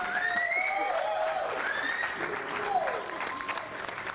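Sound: applause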